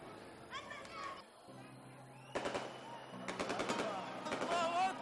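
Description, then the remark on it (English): Rapid strings of firecrackers crackle in sharp, dense bursts, fairly loud, set off over a school after prayers, while children's voices shout and chatter throughout. “After finishing the prayers, sounds of firecrackers and takbir were heard over the school.”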